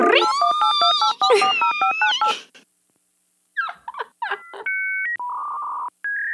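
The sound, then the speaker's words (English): A voice imitates a dial-up internet modem connecting over a phone line with high, warbling, stepping tones, breaks off into a brief silence, then resumes with squeaky chirps and steady beeping pitches. “can you please insert the dial-up sound?”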